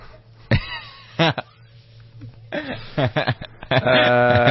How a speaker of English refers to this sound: It's this phlegm. So it's a wet cough.